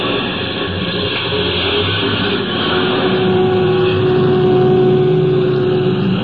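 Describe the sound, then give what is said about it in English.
A bus engine rumbles steadily, then grows slightly louder and fuller as the bus carrying passengers pulls away and swings out onto the highway, with a droning hum and no voices. “Halfway back in the bus sat the 3rd passenger, all huddled up in his overcoat.”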